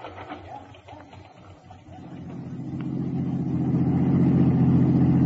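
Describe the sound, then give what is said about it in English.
A rented car drives along, its low engine rumble building steadily louder over a few seconds into a sustained, humming drone with no talking. “In a rented car, I drove back to the Anderson address, parked across the street, and watched.”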